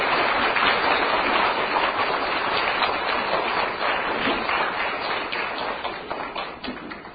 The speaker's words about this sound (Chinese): 有请我们在座的所有朋友们用最热烈的掌声，请出我们尊敬的吴君宏台长来给大家做开示。